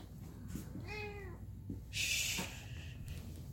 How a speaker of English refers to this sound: Shh. Hold on. Cat.